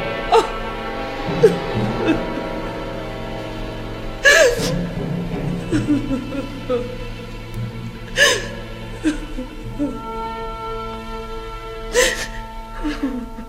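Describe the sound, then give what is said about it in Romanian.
A woman sobs, her crying broken by sharp, gasping intakes of breath every few seconds and a steady wavering whimper in between; no words are spoken. “Nu plânge”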